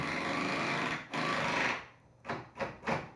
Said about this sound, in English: Wow, my goodness, that was a drill, wasn't it?